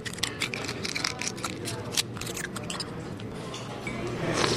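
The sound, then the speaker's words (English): Busy oyster restaurant clatter on the San Francisco wharf at lunch, with wet squishing and crunching bursts as waiters shuck oysters and diners slurp them down, sharp clicks scattered throughout over a steady low murmur of chatter. “The lunch crowd at Hog Island Oyster Company on the famous San Francisco Wharf slurps down oysters just as fast as the waiters can shuck them.”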